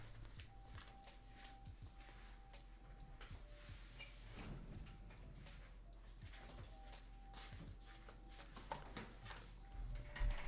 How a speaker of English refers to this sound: This cat is scratching my door to get in the house. Hold on.